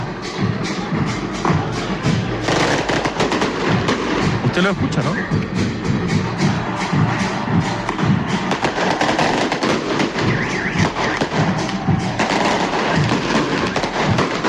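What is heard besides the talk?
fireworks exploding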